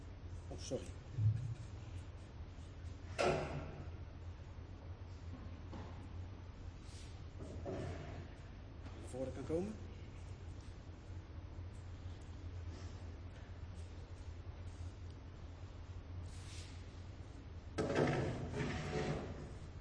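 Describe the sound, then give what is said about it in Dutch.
Several scraping, clunking thumps as a few chairs are moved and set down at irregular intervals before a meeting begins, with a steady low hum and faint voices in the background. “Oké, dan zet ik even een paar stoelen neer en dan kunnen wij beginnen.”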